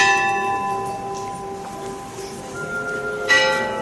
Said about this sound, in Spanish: La campana del Monasterio del Santo Ángel Custodio dobla a la salida y al regreso del Cristo de San Agustín, sagrado protector de la ciudad de Granada, mientras una capilla musical deja suspendidos en el aire sus lúgubres sones.